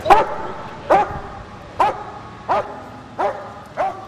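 A police dog barks six times over its toy in a steady rhythm, each sharp, fairly loud bark spaced just under a second apart, with no talking over it.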